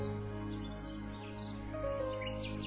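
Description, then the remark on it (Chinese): Faint, high-pitched chirps from a small bird flit in short upward sweeps, scattered over a steady low hum that fills the background. The whole clip is quiet, with no talking. “这是一只有魔力的小鸟，它对灰姑娘说， 不要伤心，不要哭泣，你的好朋友会帮助你的。”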